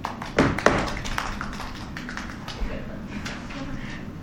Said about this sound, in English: I love our applause